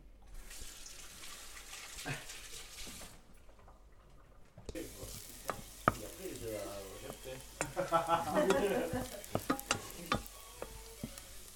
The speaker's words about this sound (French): Et là, on entend. Ça croustille. On entend les miettes de pain qui tombent.